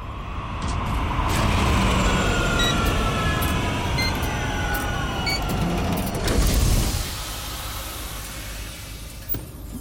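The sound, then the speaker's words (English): A flying police car, spinner 223, hums and whines overhead, its engine tones sweeping as it banks, swelling to a loud whoosh before settling into a lower, steady rumble as it lands at street level near crime tape around the snake pit. “The alley passes under the spinner as it banks to land near the crime tape around the snake pit.”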